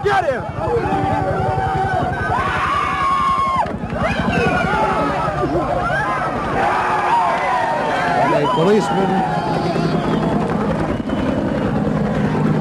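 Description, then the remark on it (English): A loud, continuous din from a crowd of demonstrators stopping traffic on the access route to the Theodore Roosevelt Bridge in Washington, below the Lincoln Memorial, many voices shouting and calling over one another, with a steady low rumble running underneath throughout; police are using tear gas. “Groups of demonstrators have attempted to stop traffic.”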